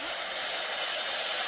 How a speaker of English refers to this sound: I dip my long pipe into the hot glass. I roll the pipe on the table to smooth and cool the glass. I blow into the pipe.